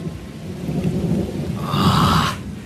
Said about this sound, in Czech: Tak tohle už stojí za to. To už je řádskej liják.